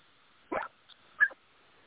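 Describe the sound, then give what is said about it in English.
A dog in a parking lot, barking at people, gives two short, sharp barks about two-thirds of a second apart, with a faint yip between them, over a quiet background hiss. “I'm sorry, my dog is going to bark.”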